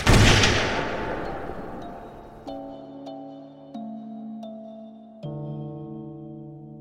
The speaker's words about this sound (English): And you have a brief moment where you get to revel in the feeling of being across before you hear a sickening crack as a musket ball crosses the river.